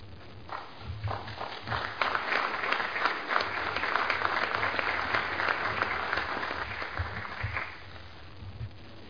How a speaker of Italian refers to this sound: Questo naturalmente è un applauso di tutto il Consiglio, soprattutto ai partigiani che vediamo tra il pubblico e che ringraziamo appunto per essere qui con noi.